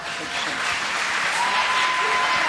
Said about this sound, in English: Why don't we give him a little hand clap?